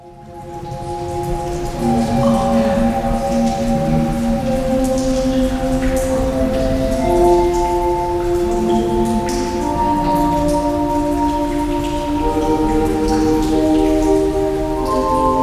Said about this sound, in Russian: Да, слышны струи воды, мы слышим орган, мы абсолютно, вот ты с помощью своего походного маленького микрофона смогла передать эту атмосферу и не только идею.